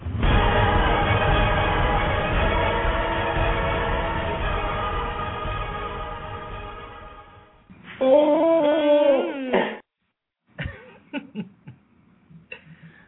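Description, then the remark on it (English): An auto-tuned dog howl: a long, steady, buzzy pitched drone, then a short burst of wavering, warbling howls, followed by a few scattered clicks and yips near the end. “starring … in …. Auto-tune me.”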